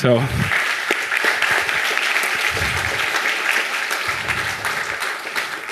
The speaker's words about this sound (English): So big applause to him.